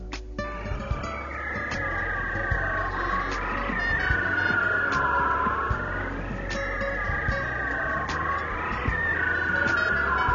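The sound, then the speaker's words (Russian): A bearded seal (Erignathus) sings underwater along the shifting, broken edges of the polar pack ice: long, warbling trills that glide slowly downward in pitch, repeating in drawn-out sweeps over a steady low rumble, with no talking. “Вот так поет эригнокус, бородатое тюлени.”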